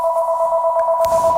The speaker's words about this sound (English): Sorry about the telephone ringing.